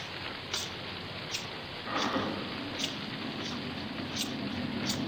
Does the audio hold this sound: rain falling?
yes